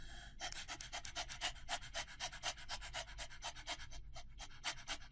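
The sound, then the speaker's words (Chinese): A person imitates a dog panting as a singing exercise for pharyngeal voice that trains the lower abdomen and diaphragm, with rapid, rhythmic breathy huffs, steady bursts of airy noise repeating many times a second with no speech. “可以这么做，模仿一下狗的喘气的方式，就像这样。”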